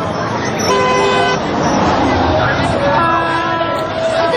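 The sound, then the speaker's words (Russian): A voice imitates a car horn with two steady, honking toots about two seconds apart, each held for under a second, over a constant noisy background hum. “Машина? Я машина.”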